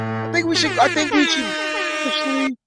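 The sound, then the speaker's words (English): A blaring air horn alarm effect holds steady, buzzy tones for about two and a half seconds, with voices shouting over it before it cuts off abruptly. “Like, give him the sound, the alarm.”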